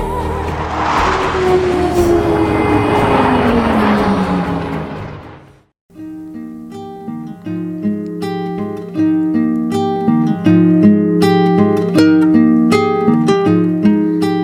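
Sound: fighter jet flying overhead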